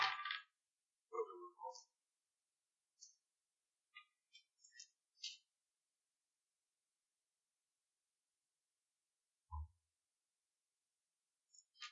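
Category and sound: household object, many dice being rolled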